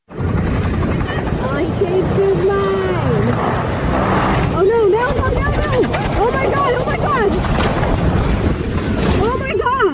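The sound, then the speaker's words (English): A helicopter at Huntington Beach, California roars loudly and steadily, its rotor noise a continuous rushing drone, as it flies low, rises, spins out of control and crashes, while people shout and cry out excitedly over it throughout. “This woman caught it on camera when at first the chopper flies low, then rises and spins out of control before crashing.”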